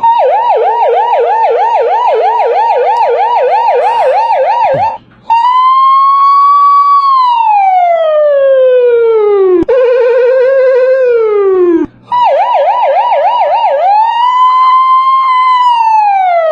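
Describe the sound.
A man's voice imitates a police siren with no special effects, loud, alternating a rapid yelping warble with long, slow rising and falling wails over about sixteen seconds, with no talking.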